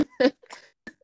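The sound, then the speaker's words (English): A single sharp sneeze bursts out loudly near the start, followed by a few quieter breathy snorts and sniffs trailing off. “Bless you.”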